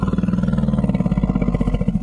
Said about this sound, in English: usually when elephants hear this call, they get really cautious because calls from these dominant, stranger females can indicate that maybe a female is approaching that can pose a danger to the family. And here's what one of those calls sounds like.